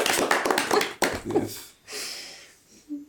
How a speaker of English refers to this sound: Here, here. Golf clap.